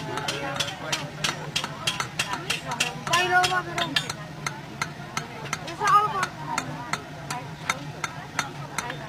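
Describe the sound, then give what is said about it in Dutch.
Rapid, steady hammering by a blacksmith at a smithy, beating a heated piece of steel flat, with sharp blows falling about three times a second for the whole stretch. Brief bits of voices murmur underneath, over a low steady hum. “Flink timmeren.”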